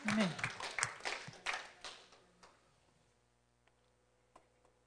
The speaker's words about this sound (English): Let's give a clap to Jesus.